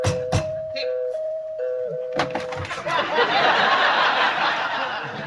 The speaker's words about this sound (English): What's that? Mr. Furley just fixed the doorbell.